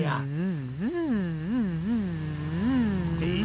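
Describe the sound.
Someone hums a buzzing bee imitation, a continuous nasal drone that swoops up and down in pitch in repeated wavering arcs, steady and moderately loud over a faint high hiss.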